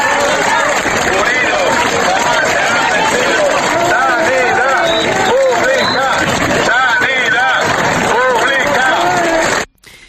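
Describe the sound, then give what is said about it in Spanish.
A crowd at a protest march for healthcare in Ponferrada, El Bierzo, backed by more than 1,000 citizens, shouts and applauds, many voices overlapping in a loud, dense roar that continues steadily and then cuts off abruptly. “Y después de todos esos aplausos, de esos gritos, numerosas intervenciones de los participantes”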